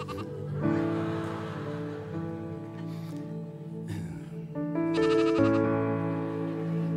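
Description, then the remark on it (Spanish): A sheep bleats loudly and repeatedly, long wavering cries following one another with only brief pauses, no voices alongside. “Disculpe que los dejara solos un momento, pero es que me decían que había una oveja que se perdió.”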